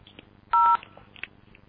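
A single loud touch-tone dialing beep, a steady two-pitch tone lasting about a quarter second, rises above faint, crackly phone-line noise with no one talking, as a caller dials 1010-2880 to reach AT&T.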